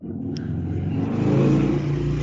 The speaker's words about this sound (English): Whoa. Whoa, motorcycle.